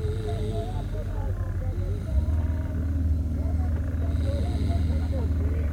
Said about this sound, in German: Plötzlich setzte das gleichmäßige Tuckern des Motors aus.